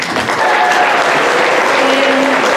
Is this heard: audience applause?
yes